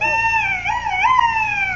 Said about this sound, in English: it was a duck call I carved out of a turkey bone